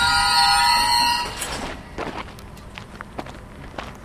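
A freight train loaded with scrap metal at the Gerlafingen steelworks in Switzerland: its wheels let out a loud, high metallic squeal that cuts off after a second, followed by scattered footsteps and light clatter.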